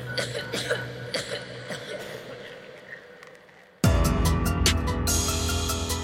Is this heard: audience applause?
no